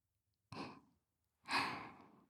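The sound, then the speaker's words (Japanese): Two soft, breathy exhales blown close to the ear, a short puff followed by a longer, fuller breath, airy and intimate with no talking. “弱いお耳を私の吐息でくすぐられていっぱい感じちゃってくださいね。”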